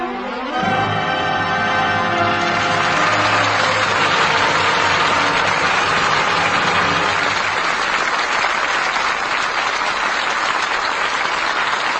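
crowd, theater audience applause

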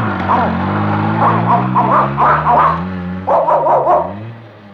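animal, dogs barking

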